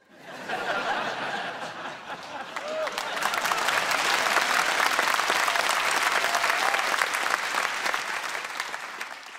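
A crowd breaks into loud, sustained applause, many hands clapping in a dense patter that swells after a couple of seconds and holds steady, with a few scattered chuckles mixed in.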